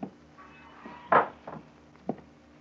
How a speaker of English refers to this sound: He opens the sun-warped screen door and enters the lobby.